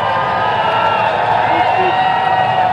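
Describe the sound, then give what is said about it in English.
A crowd in Berlin cheers loudly and steadily for a few seconds as King Charles III arrives on his first foreign trip as Britain's monarch, a dense wash of many voices with scattered shouts and a busy murmur underneath. “A hearty cheer from the crowd.”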